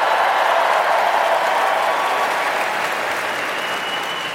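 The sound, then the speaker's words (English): A show's audience bursts into sustained applause for a caller from Pittsfield, Massachusetts, a town by Tanglewood: a dense, steady wash of many hands clapping at once that holds loud and even for several seconds before easing slightly at the end. “I'm about to get a bigger applause because I'm actually from, born and raised, the Tanglewood-adjacent town of Pittsfield, Massachusetts.”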